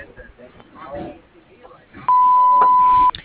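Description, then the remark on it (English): The answering machine of an auto crushing and trucking business gives one long, steady, mid-pitched beep lasting about a second, loud and constant, right after a recorded greeting voice finishes speaking. “If you would like to leave a message, please do so after the beep.”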